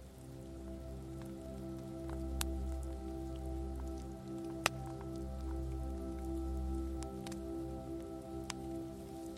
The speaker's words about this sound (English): Breathe intentionally as you sit with this question, and perhaps notice the sound of the waves rolling up the beach.